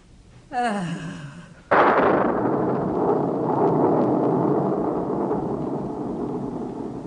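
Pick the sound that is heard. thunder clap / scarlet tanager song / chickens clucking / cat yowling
thunder clap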